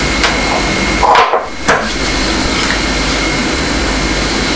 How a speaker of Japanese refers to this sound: 積み木はポイしないの。危ないでしょ。当たったら痛いんだよ。